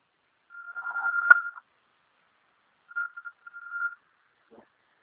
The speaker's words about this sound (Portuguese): Ali, velho, o telefone da sua mãe tocando ali.